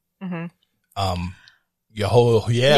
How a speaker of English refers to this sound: I heard the gasp.